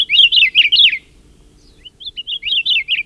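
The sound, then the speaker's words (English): A Hawaiian honeycreeper, the ʻakiapolāʻau, sings loud, bright warbling phrases, pausing for about a second before another rapid, rising-and-falling burst. No voices. “Or perhaps the seeds hitched a ride on the ancestors of this Akeapola owl we're hearing, caught in a storm and blown to the Hawaiian Islands.”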